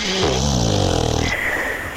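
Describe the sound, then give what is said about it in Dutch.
A loud snoring sound effect used as a jingle: a rumbling, buzzy inhaled snore that breaks into a thin, high whistling exhale, with no talking. “Dat was de snurk. Dat was een snurkjingle”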